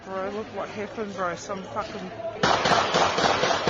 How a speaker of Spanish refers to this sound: Poco después se escuchan unos disparos de la policía contra el agresor, un hombre de 32 años, nacido en Sri Lanka y residente en Nueva Zelanda desde hace 10 años.